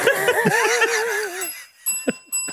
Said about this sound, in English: Sorry, the bell's gone off.